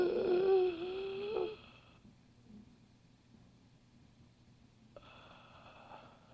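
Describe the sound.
A voice imitates the slow, labored breathing of a man lying in a lounge chair with a large oxygen tank: a loud, raspy breath for about two seconds, a long pause, then a softer breath starting. No talking.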